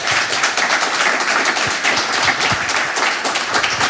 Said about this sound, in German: Da ist er. Herzlich willkommen. Applaus für Julius Bucher.